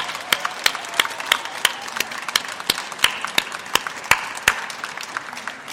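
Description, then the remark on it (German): An audience at a book event applauds warmly for guest author Christopher Golden, joined via Skype from the USA, a dense wash of many hands clapping steadily with a few sharper, louder claps standing out, sustained throughout without any talking. “Ich bitte noch einmal um einen herzlichen Applaus für unseren Gast aus Amerika, Christopher Golden.”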